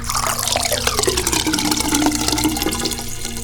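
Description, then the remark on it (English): Water is poured for a cat, splashing steadily into a container, a continuous rushing, gurgling stream that stays fairly loud for the whole few seconds with no voices. “Well, it looks like the cat wants more water.”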